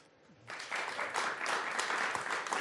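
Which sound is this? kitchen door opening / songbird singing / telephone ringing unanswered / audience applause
audience applause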